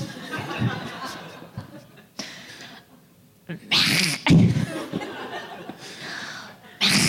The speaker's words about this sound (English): Well, no, I'm just, it's a gag reflex. I'm like using different parts of my throat to make this sound.